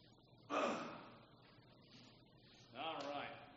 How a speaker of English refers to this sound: Give me a moment, I'll try to cough.